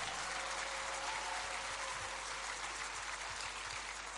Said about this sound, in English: If you are not jealous, you should clap.